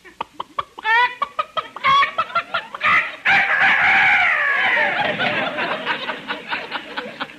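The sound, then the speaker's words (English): A rooster clucks in quick sharp bursts, then lets out a loud, drawn-out crow, followed by more rapid clucking, as it is put on a phone call. No one speaks. “I have a phone call for you from Dr. Rooster. Just a minute, I'll put him on.”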